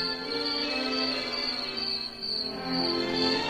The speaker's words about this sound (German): Stellt euch vor, wir sind in einem kleinen, hübschen Städtchen. Irgendwo in Italien. Es ist eine wunderschöne Nacht. Am Himmel glitzern die Sterne. Kein Laut ist zu hören, nur die Grillen zirpen ein leises Konzert.